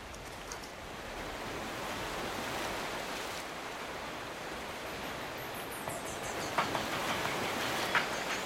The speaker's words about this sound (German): So ein Tag am Meer.